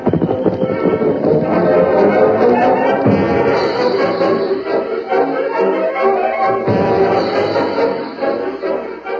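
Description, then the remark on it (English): A horse's hoofbeats clop along steadily outside a ranch house, beneath loud, sustained orchestral music that fills the whole stretch without pause. “Sounded like a horse outside the house.”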